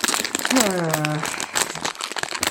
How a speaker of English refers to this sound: Sorry, if there's rustling, I'm going to go for another wine gum.